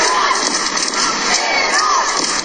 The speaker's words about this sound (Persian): اما در این استادیوم کوچک تعداد زیادی زنان ایرانی هم حضور پیدا کردن و در حال فریاد زدن و تشویق تیم ملی ایران هستن. صدای اونها رو با هم بشنویم.